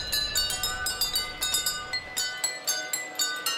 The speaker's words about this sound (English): Traveling through intricate landscapes and tiny versions of cities, the train is equipped with tiny mallets that strike tiny water-filled glasses. And the water levels must be exact.